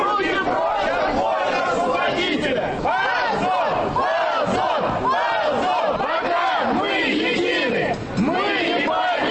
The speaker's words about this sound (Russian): Звучащих из колонок музыкантов периодически перекрикивают митингующие.